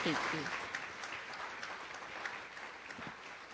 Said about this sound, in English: So please join me in a round of applause for everyone who's helped for this day.